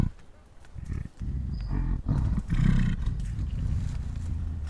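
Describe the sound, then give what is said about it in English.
A deep, rumbling gorilla belch vocalization, a low guttural grumble that rolls on continuously for several seconds with a few brief breaks, heavy in the bass with no talking over it. “This one is called a belch vocalization.”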